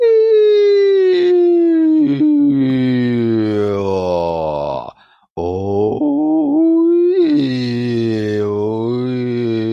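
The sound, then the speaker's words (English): A single voice hums and sings without words in a resonance exercise to find the frequency of the neck cavity, gliding slowly up and down in pitch in long sustained sweeps, breaking off briefly once before sliding on again, loud and continuous. “Okay, put your hand on your neck and go up and down in frequency and see where it vibrates the most.”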